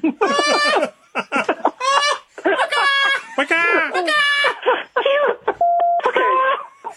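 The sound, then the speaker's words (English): A person imitates bird calls with a string of squawky, warbling vocal cries, loud, in quick bursts with a steady tone near the end. “I don't dance around the golf club flapping my wings and making bird noises.”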